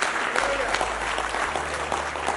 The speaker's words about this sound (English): Give the Lord one more big hand clap of praise. You love him with all your heart.